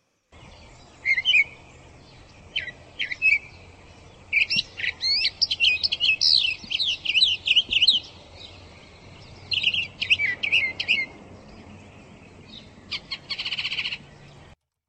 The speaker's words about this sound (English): We do have one more bird sound, and you wanted us to use this of the mockingbird. Yes. Let's listen to that, and then let's talk.